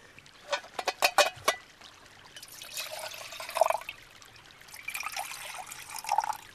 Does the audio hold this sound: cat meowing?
no